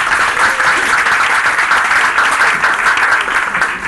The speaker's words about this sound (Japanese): 鳴り止まない拍手ありがとうございます。